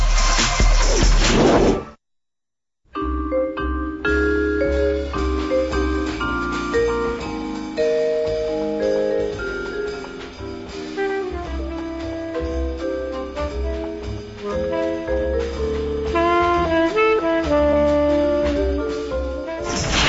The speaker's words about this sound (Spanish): Vamos a un puente musical y regresamos.